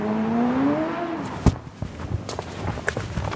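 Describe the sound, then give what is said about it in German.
A motorcycle speeds across an intersection in Tel Aviv, Israel, at about 3:30 in the afternoon, racing to get through on green; its engine whines past, pitch climbing for about a second, then gives way to scattered clicks, thumps and footsteps in the street. “Ein Motorradfahrer rast über eine Kreuzung, um noch bei Grün über die Ampel zu kommen.”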